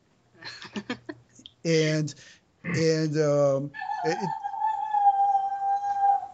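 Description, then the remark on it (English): A person imitates a coyote, first with short yips, then two loud, strained howling wails, ending in a long, steady high-pitched howl held for a couple of seconds. “A coyote has entered this building.”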